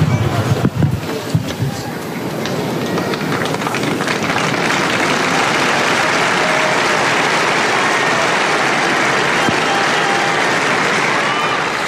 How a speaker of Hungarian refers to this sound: Tapsot hallva, kedves hallgatók is gondolhatják, hogy sokan vannak jelen a Szent Péter téren a Vatikánban.